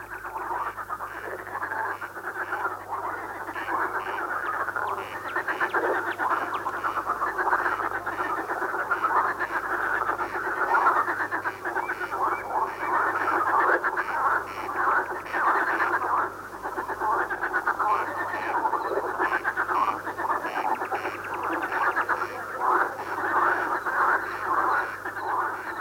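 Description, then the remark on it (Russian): A dense night chorus of marsh frogs croaking continuously, many overlapping rattling calls forming a steady, loud wall of sound with no voices. “Это дают ночной концерт озерные лягушки.”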